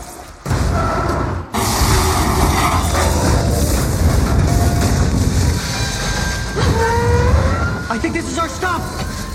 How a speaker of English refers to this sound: Another train coming! Trust me! Speed up! Stop the train!